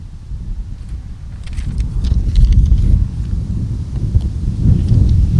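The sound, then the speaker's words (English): Heavy low rumbling buffets of wind batter the microphone outdoors during a service in a park, a continuous roaring gust that swells and surges for several seconds with scattered faint clicks above it. “And a little windy up here.”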